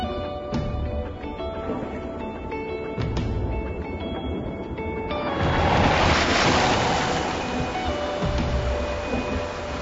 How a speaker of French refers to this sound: a peur d'être assommée par les vagues trop hautes à l'intérieur de la cabine du bateau.